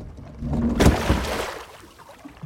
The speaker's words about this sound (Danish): Jamen, mens I lige så gør pram sådan dunk, som om den støder på noget i vandet.